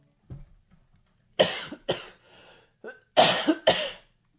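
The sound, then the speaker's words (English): A harsh dry coughing fit from a person who picked up a bug over the holidays: several sharp hacking coughs arriving in two tight clusters, with a smaller throat-clearing cough at the start and brief wheezy breaths between bursts. “Oh, I picked up a bug over the holidays and it's got a real dry cough attached to it. And I just launched into a little attack.”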